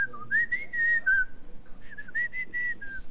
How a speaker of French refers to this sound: Les lèvres en avant, comme ça, on tire les lèvres. On va siffler.